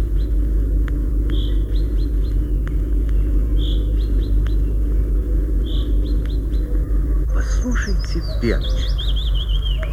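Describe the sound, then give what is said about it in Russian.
A common chaffinch repeats its short, clear rain call at a steady pace over low traffic-like rumble, and near the end a brief descending burst of song joins in. “Кроме песни, у зяблика есть еще громкий крик. Особенно часто зяблик начинает рюмить перед дождем.”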